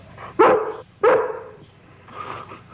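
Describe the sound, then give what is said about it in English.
A dog named Jenny barks twice in quick succession, loud, followed by a softer whining murmur as the sound fades. “Understands everything you say, doesn't she? Just about. A real smart dog.”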